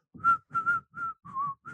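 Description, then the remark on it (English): Someone whistles a short tune, five clear sustained notes in a steady rhythm with brief pauses between them, the pitch shifting slightly from note to note, with breathy air beneath. “My whistling would be something like this.”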